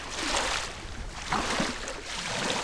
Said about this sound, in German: Für Wanderführerin Christine Salis ist das Wellenrauschen am Silser See ein gutes Zeichen. Denn dann weht der Maloja-Wind über den See, bringt die Wellen zum Schäumen und bläst den Kopf frei.